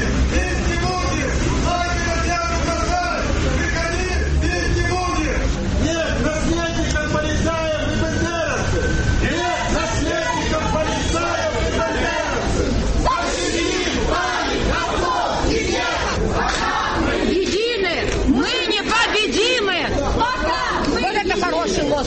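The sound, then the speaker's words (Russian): A crowd of communist and other left-wing protesters blocking the doors of a Ukrainian church in Simferopol shouts "come out, we won't beat you", many loud overlapping voices yelling together in a dense, unbroken roar with no quiet gaps. “Несмотря на то, что левые кричали «выходите, бить не будем», кажется, только присутствие милиции спасло от драки.”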